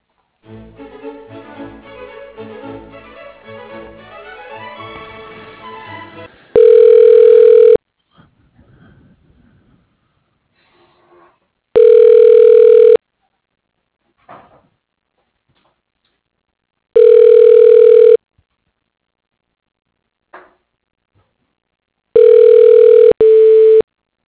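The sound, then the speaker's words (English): A stretch of hold music gives way to a phone ringing on the line as the call is transferred to HR: four loud, steady, mid-pitched ringback tones, each about a second long, spaced roughly five seconds apart with near silence between. “I can transfer you over to HR, and they might be able to help direct you further from there.”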